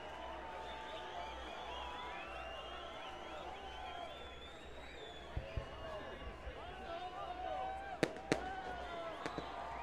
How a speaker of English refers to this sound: What's with the fireworks? Is it Rochester's anniversary? Is it a fire over at the factory? No.